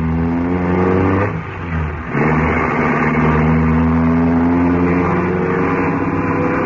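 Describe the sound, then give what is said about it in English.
A car engine roars loudly at high revs as it is driven fast through narrow streets, briefly easing off as if shifting gear, then surging again with a strong, steady drone. No one speaks. “He isn't going to drive through these narrow streets at this speed, is he?”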